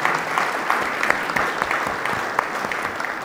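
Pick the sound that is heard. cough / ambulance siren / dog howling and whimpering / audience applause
audience applause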